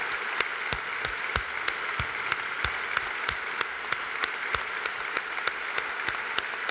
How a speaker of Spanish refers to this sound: Estamos escuchando a Ignacio González en directo en ese aplauso a las víctimas del terrorismo.